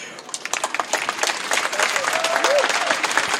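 A crowd applauds with dense, continuous clapping that swells slightly over a few seconds, with a faint whistle rising through the middle of the applause.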